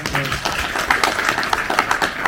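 Steady applause from an audience for two people, a dense wash of many hands clapping at a moderate, even level, with faint voices mixed underneath.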